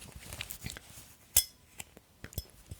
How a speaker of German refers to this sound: Ich hätte gern so ein klirrendes Geräusch, das man angestoßen hat. Aber ich habe nichts an anderem Glas hier.